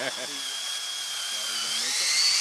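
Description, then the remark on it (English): A cordless drill whines steadily at high pitch as it bores tap holes into maple trees to collect sap for maple syrup, the tone climbing slightly near the end, with faint voices talking underneath. “We don't want to be just drilling and having it squirt at us.”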